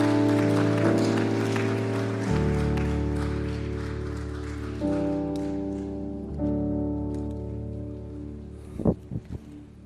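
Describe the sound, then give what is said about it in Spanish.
An audience applauds the Lord after a prayer, over sustained, swelling keyboard chords, the clapping dense at first and then thinning out as the chords continue, with a few soft thumps at the end. “Recibe este aplauso, Señor.”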